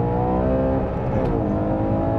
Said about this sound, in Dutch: Ja, de Ferrari Puro Sangue. Laten we het meteen even over die motor hebben. F140L ANA. F140 in ieder geval V12. 6,5 liter groot.